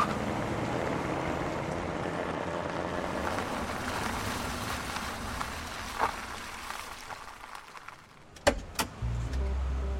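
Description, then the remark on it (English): A car rolls along on a flat tire with a steady, rough rumble, then slows and dies away, followed by a couple of sharp clunks and a low hum. No one speaks. “They're on their way to see the captain, but suddenly, out of nowhere, fucking flat tire, wouldn't you know that? Crap, got a flat tire!”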